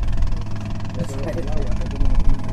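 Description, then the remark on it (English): The inboard motor of a John boat carrying four green-uniformed Coast Guardsmen putters along on a river in Cuba in a low, steady drone with a throbbing rumble, while muffled voices talk faintly over it. “During the several hours we were on the river, the only sign of law enforcement were four green-uniformed Coast Guardsmen putting along in a John boat with an inboard motor.”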